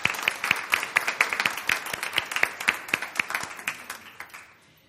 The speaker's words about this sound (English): Let us applaud for that.